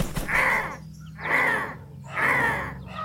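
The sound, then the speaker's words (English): Three loud, harsh caws at a steady rhythm from a swarm of hundreds of blackbirds cawing in unison, perfectly synced, each call rasping and drawn out, with no talking. “The caw, caw, caw was coming from the tornadic swarm of hundreds of blackbirds, cawing in unison, perfectly synced.”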